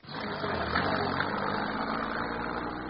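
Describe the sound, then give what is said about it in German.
A car engine runs steadily, a continuous low rumble with a broad mechanical hum that holds an even level throughout, with no voices. “Zwei Wagen.”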